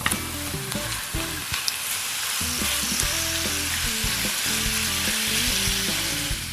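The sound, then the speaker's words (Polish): Chicken sizzles steadily in hot fat in a pan with lightly softened onion, a continuous crackling hiss with occasional clicks of stirring, moderately loud and without any talking throughout. “Gdy widzimy, że cebula lekko się zeszkliła, możemy dodać kurczaka na patelnię.”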